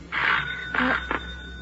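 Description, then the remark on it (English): A doorbell chimes with three bright tones in quick succession, a longer ding, a second note and a short final tap, clear with no voices. “The doorbell.”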